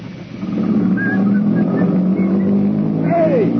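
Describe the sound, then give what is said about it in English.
A car engine revs up and drives off, a steady, fairly loud low rumble with a faint higher whine riding above it, and no voices. “Where are you going? Come back here! Come back with that car!”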